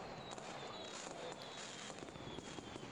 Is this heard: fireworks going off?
yes